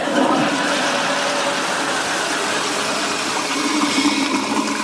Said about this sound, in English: Hang on a minute, I'll just fill the kettle.